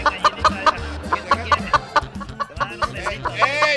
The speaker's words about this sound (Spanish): ¡Ey! ¡Suelta la gallina! ¡Le está levantando la cuerda! ¡Abogada, le está levantando el plumaje de atrás!